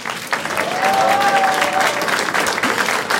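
audience applause

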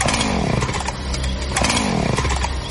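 chainsaw being started

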